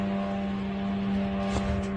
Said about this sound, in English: They're the mopeds, yeah? The little Shaheds. The Shahids are now arriving there. Well, that's a departure maybe, or a launch. These are the Shahid drones here that you can see on the screen.